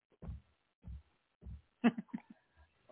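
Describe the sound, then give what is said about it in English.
Three deep, muffled old-school heartbeat thumps played from a studio soundboard pound at a steady, slow pace, followed by a quick cluster of sharper, busier sounds near the end. “That's why you had them old school heartbeats when you thought they people were stomping their feet.”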